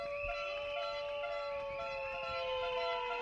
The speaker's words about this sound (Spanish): Ruido de bocinas y ruido de maquinillas con las que muchos peluqueros se han rapado el pelo en las puertas del Senado.